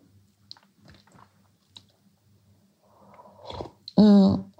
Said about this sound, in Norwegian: Så du får unnskyld meg at hvis det blir litt slurping, jeg måtte bare ta en slurk til.